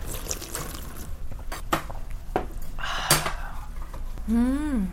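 Broth of Chodang tofu, made from stone-ground beans and clean seawater, is poured and sipped, with light clinks of bowls and utensils, a brief liquid splash midway, and a drawn-out appreciative vocal hum at the end.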